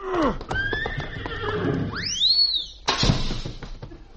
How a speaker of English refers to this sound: Come here, horse.